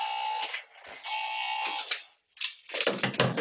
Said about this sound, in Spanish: Suena el teléfono de Onda Civil.